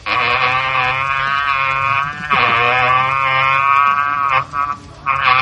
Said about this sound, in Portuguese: e eu realmente estou impressionado com a colisão de dois mundos, dois casts tão gigantescos num mesmo local sonoro, e por isso eu vou tocar o meu berrante.